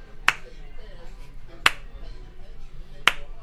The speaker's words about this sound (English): Just this snarky, obnoxious. I did like the slow clap. Clap. That would drive me to the roof.